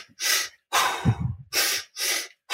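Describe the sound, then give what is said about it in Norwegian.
Quick, forceful breaths in and out through the mouth, about five bursts in two and a half seconds, fairly loud with no talking. A person is demonstrating rapid hyperventilation. “Jeg vil bare si at, ja, at du puster kjapt inn og ut, da, gjennom munnen, sånn.”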